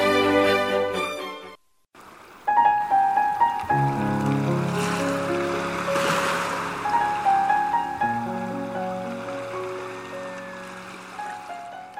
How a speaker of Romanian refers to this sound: Într-o noapte, pe când toți călătorii de pe corabie dormeau, izbucni o furtună puternică pe ocean, care prinse vasul într-un vârtej